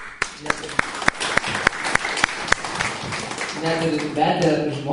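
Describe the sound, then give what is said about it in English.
An audience breaks into applause for the speaker's wife, a dense wash of clapping punctuated by several sharp, louder claps, then fading as a voice starts talking over the tail end. “She doesn't like it when we applaud for her.”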